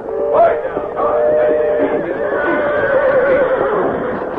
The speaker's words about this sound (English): Train whistle scare horses. Those horses are too nervous to be hitched to a buckboard.